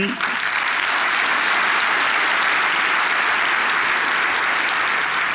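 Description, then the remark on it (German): Sustained audience applause at the CCC, a dense steady wash of many hands clapping at even loudness throughout, with no voices standing out above it. “Ein Applaus, dass wir dem Staat Geld sparen beim CCC, Leute.”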